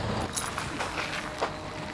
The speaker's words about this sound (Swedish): Varför selar du av honom nu? Jag får en gräsmatta här till höger. Så nu är det rastning? Ja.